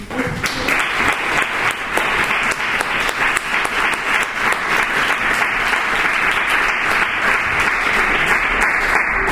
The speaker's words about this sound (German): Was ja auch heute auf der Straße passiert wurde, ist, es gibt ein paar Leute hier im Raum, die sich heute von der Straße tragen lassen haben. Und ich finde, da sollten wir einmal kurz klatschen.